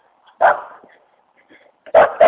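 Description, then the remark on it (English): A dog barks twice, loud, with a pause between the sharp barks and a little faint yipping or shuffling in the gap. “There's another one up here you can bark at him.”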